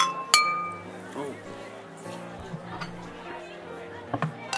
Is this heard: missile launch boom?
no